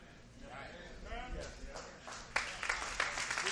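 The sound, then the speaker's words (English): Voices murmur at first, then an audience listening to a sermon breaks into hand clapping: scattered claps that quickly thicken into brisk, irregular applause, fairly loud by the end. “I'm not preaching for hand claps, y'all.”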